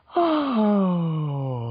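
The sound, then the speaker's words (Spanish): A single voiced sigh, a descending vocal cool-down exercise, glides smoothly downward in pitch like a yawn, sustained for nearly two seconds, moderately loud with no words spoken. “Siempre, no es necesario otra vez un piano para esto, pero pueden usar los mismos ejercicios que usaron en el calentamiento, pero háganlo de una manera descendente, como un...”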